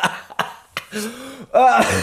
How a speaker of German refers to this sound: Sorry, ich habe so einen scheiß Husten. Ich muss nicht immer, wenn ich zu fest lache, muss ich husten.